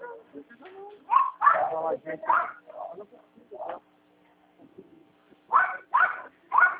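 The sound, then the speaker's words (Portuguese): A dog barks nervously in two quick, agitated bursts of several sharp barks each, loud, with quieter talking in between, at a dog passing in the street. “Cachorro tá nervoso aí?”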